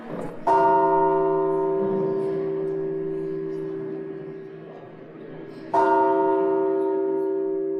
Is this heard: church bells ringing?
yes